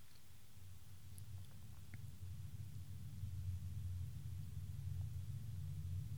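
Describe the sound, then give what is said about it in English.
A jet airliner coming in to land at LAX early in the morning: a low, steady rumble that swells slightly and holds for several seconds. It is fairly quiet overall, and no one speaks. “That's a jet coming in to land at LAX.”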